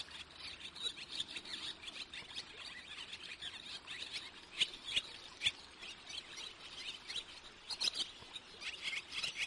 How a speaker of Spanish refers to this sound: Esta ave es la golondrina, ¿a que la conoces? Aunque cría en los aleros de algunos edificios, esta especie, que es migradora, como sabemos, hace mucha vida en el río, buscando insectos, recolectando barro para su nido y, por supuesto, bebiendo agua.